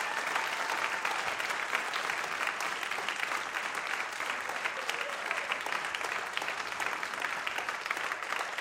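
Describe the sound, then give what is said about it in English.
A Christian audience applauds steadily for several seconds, a dense, even wash of many hands clapping with no clear individual rhythm, sustained at a fairly constant loudness throughout, applauding its members for what they have done. “And we want to acknowledge and recognize you and applaud you for everything you've done so far and will do.”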